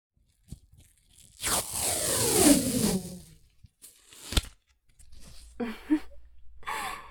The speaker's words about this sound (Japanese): お仕置きが辛くて暴れるといけませんから、柔らかいテープで手足を巻きつけておきましょう。